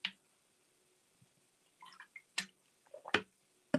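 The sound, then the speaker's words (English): Someone drinking a glass of water: soft sips and wet swallowing sounds, a few sharp gulps and clicks spaced across a few seconds, with quiet pauses between and no talking. “I think I need a drink of water.”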